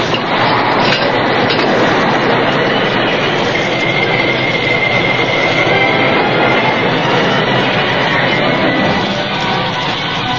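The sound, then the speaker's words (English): An old work train engine braking to a stop on a curving track beyond a short canyon, a loud, steady rushing rumble of rolling wheels, with a thin, high metallic squeal rising faintly through the middle. “As the old work engine squealed to a stop, the Lone Ranger glanced out the cab window at the curving sweep of track beyond.”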